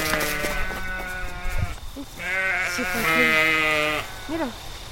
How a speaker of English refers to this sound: The sheep have gotten out, so we're waiting to see if she can't get them to come in. She says that the sheep that are in the pen are calling the sheep that are outside the pen.